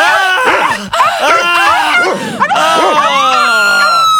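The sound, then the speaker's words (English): Dogs bark, yip and whine over high-pitched women's screams, all piled into a loud, dense, continuous clamor that stays intense and climbs in pitch toward the end. “Ah, dogs and sexy ladies coming to a crescendo!”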